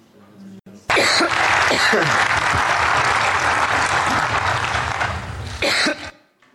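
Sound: person imitating a cough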